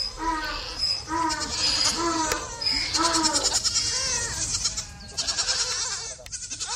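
Several White German goats (weiße deutsche Edelziege) on a goat farm in Zollrücke, Germany, bleat repeatedly in overlapping, wavering cries, fairly loud, with steady chirping of insects or birds in the background. Their milk is made into goat cheese.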